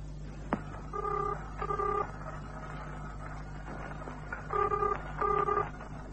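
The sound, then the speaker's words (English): Touch-tone beeps of a phone number being dialed on an open line to reach Nick, several quick tones in one burst, a pause, then another burst, over a steady low background rumble. “Get Nick on the phone, will you?”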